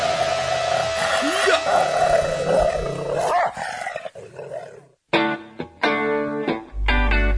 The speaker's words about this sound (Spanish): Fuera, fuera. Un perro aburrido que muerde la pierna del que va último.